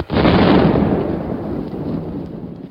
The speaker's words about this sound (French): C'est l'explosion de Nebout de la grosse Bertha sur la maternité de la rue d'Assas. Explosion qui fit tant de victimes parmi les femmes perturbantes.